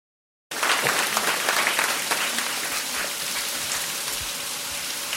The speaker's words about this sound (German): Was Sie da gerade hören, da haben wir nichts simuliert, auch kein Sendeausfall oder sowas in der Art, sondern das ist das Wasserkraftwerk hier in Güstrow.